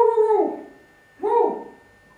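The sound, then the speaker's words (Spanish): A person's voice mimics a dog with two drawn-out, falling woofs separated by a short pause, close and clear with nothing else in the background. “Y entonces el perro busca el rastro a ver si encuentra el lobo.”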